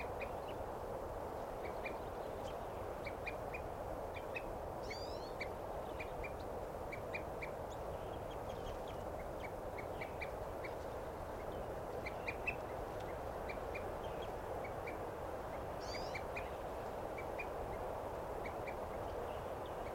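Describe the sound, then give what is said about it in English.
A bird at a water hole gives a long series of short, repeated tooting calls, often in quick pairs, at a steady pace over constant background noise, with a couple of brief chirps from another bird. “Now that bird's tooping, and there's a eating grosbeak there.”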